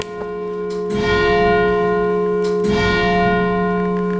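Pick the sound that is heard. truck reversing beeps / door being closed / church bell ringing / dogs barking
church bell ringing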